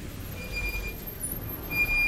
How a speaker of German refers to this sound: Aber wie kommt der Raupenbagger denn zur Baustelle? Mit dem Laster. Allerdings mit einem riesigen, ganz langen Laster. Der heißt Tieflader.